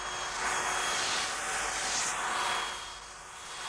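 A vacuum cleaner coming back roars with a steady, loud, hissing whoosh that swells and eases slightly over a few seconds, with no voices.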